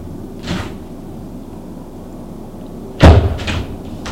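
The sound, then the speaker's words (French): A door being opened with difficulty: a faint creak or scrape, then after a pause a heavy thud followed by a few short rattling knocks as it gives way. No one speaks. “Il ouvre difficilement la porte.”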